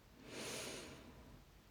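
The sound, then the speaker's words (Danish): A single deep, airy inhale through the nose, swelling and fading over about a second, fairly quiet with no talking. “Så tag nu et dybt åndedrag ind igennem din næse.”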